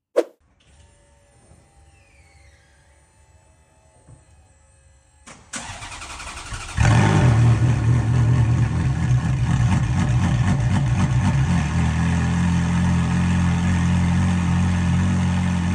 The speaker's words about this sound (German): das Auto gestartet und zwar wirklich absoluter Kaltstart. Das Auto stand in der Garage, am Lader und dann hat er das Auto angelassen. Und ich finde, wie dieses Auto klingt, das hat jetzt nochmal einen extra Soundclip verdient.